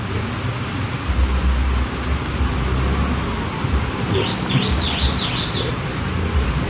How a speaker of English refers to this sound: The bird made the tweet, like the Twitter tweet.